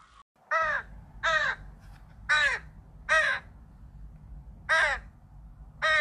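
bird, crow cawing

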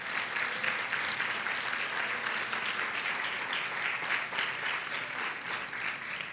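crowd, audience applauding

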